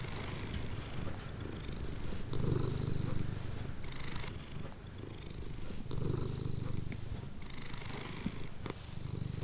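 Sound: cat purring contentedly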